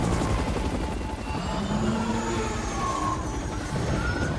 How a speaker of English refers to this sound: It rips off the tail of Connor's helicopter, which goes into a spin.